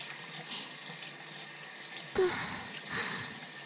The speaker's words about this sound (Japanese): 先端にシャワーを当てながら、根元の部分もお掃除していきますね。